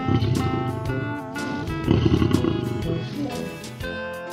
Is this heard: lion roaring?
yes